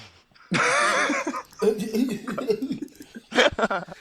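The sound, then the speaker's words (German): A loud cough bursts out, followed by a stretch of muffled talking and then another short, harsh cough near the end. “Ich kann ja nur husten.”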